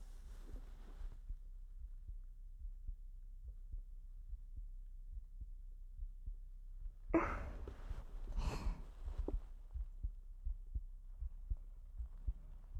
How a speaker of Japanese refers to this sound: なんだか緊張して早くなっちゃいそう。心臓の音、恥ずかしかったからこのこともママに内緒よ。